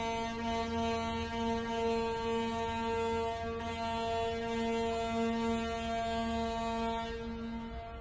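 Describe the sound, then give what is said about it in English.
A foghorn sounds one long, unbroken blast, a steady low droning tone rich in buzzy overtones that holds at even loudness for the full eight seconds, with no voices. “Did you hear that? Sounded like a foghorn.”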